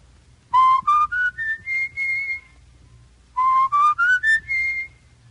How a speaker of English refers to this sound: In each case, the whistling should suggest to you a play in which a murder is committed. Give us the name of the play.